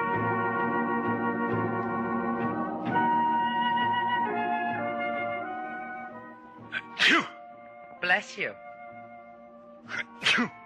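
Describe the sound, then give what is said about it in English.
Several sharp sneezes from a man with a cold burst out near the end, three or four in a row with short pauses between, following a stretch of sustained tonal background sound. “Bless you.”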